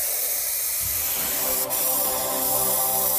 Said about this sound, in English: So, first up, we have to spray some paint on the water. Whoa. Whoa! Cool! First up, we're going with some red and yellow.